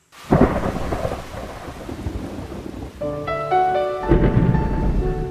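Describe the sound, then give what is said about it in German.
Loud rolling thunder booms over a steady wash of heavy rain at the opening of a Roman Polanski film, as the camera flies through a Paris avenue toward a small theatre. Midway, sustained musical tones rise briefly before the storm surges back in full force. “Mitten im Gewittersturm bewegen wir uns auf ein kleines Theater zu.”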